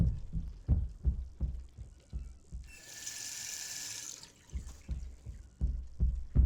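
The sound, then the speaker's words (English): Water pours in a steady hissing stream for about a second and a half as water is poured for taking pills, framed by soft, regular low thumps before and after; no one speaks. “Now, take your pills, number 42. You need water.”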